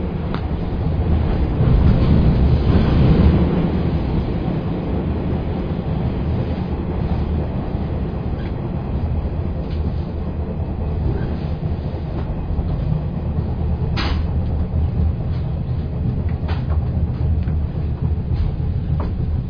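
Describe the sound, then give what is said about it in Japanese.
Inside the moving Wing Express No. 1 limited express train shortly before it arrives at its terminal, Narita Airport: a steady, loud low rumble of wheels and motors with occasional sharp clicks from the rails, continuing without pause and with no one speaking. “本日は特急ウィングエクスプレス1号をご利用いただきまして誠にありがとうございました。まもなく終点の成田空港に到着です。”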